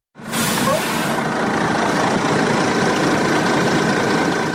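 A heavy bus carrying about 80 migrants from Middle Eastern countries idles as it stops about 4 km from the Horgoš border crossing, with a steady, low rumble and broad mechanical noise, holding a constant loudness throughout without pauses or voices.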